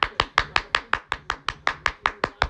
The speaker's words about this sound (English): If you never had a prison number or a jailhouse number, right now, give yourself a clap on the back. Hold on, because I'm going to clap for you.